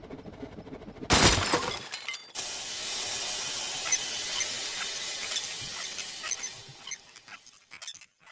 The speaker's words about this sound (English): I could only watch as the buggy careened off the path, smashing into the creek.